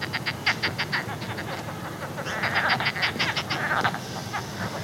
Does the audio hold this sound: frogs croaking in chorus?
yes